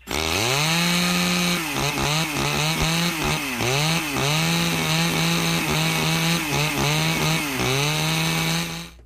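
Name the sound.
chainsaw running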